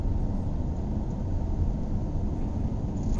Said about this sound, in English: It's a perfect storm. It's rain, driving, both those things will put you right to sleep.